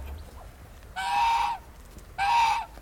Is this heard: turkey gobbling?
yes